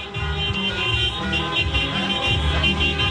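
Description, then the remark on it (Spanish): Steady street traffic with vehicles rumbling past and car horns honking amid a dense, busy outdoor din as football fans celebrate a victory, fairly loud and continuous throughout. “Y mira, acá, de hecho, aquí pueden escuchar también el sonido ambiente también de los vehículos que están pasando con los bocinazos.”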